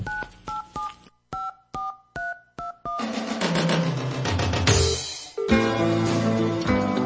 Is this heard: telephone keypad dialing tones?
yes